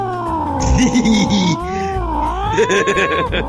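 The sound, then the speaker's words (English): A bobcat cub yowls in long, wavering, high-pitched cries that rise and fall in a loud, continuous stretch, with brief raspy bursts between the drawn-out wails and no talking. “That was quite a cat thing.”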